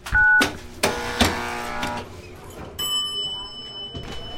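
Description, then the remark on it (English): A short electronic beep, a few clunks and thuds like a handset or door, then a steady, bright electronic buzz from an intercom door release buzzing visitors into a small bachelor apartment in a small New England town, holding to the end. “Okay, I'll buzz in.”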